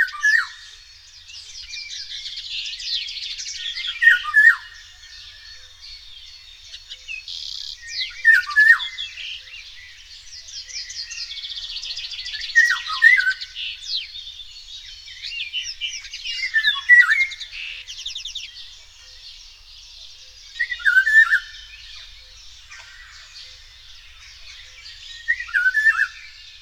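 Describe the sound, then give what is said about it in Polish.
Golden oriole calling in repeated bursts of fluty, melodious whistles about every four seconds, with busy chattering and warbling filling the gaps between them, clear, with no other sounds. “Jej śpiew składa się z pięknych, melodyjnych, fletowych gwizdów, które z większej odległości można pomylić jedynie ze śpiewem kosa.”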